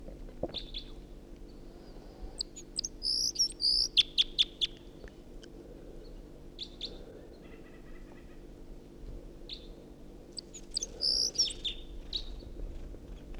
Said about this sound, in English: It's perched in the tree above the net now, singing. Stopped. But the bird is there. And it's 6:01. Damn, that was a wild bird. Wild. Wild bird. In song.